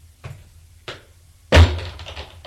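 Two soft metallic clicks as keys are worked in a lock, then a louder thunk and creak as a door swings open, with no voices.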